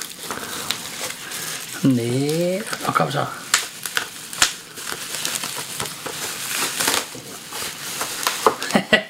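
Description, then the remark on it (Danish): Brown Christmas gift wrapping paper with mistletoe and candle motifs tears and crinkles in dense, crackly bursts as a Funko Pop figure is unwrapped, continuing for several seconds while a person speaks briefly. “Jeg har papiret ned der.”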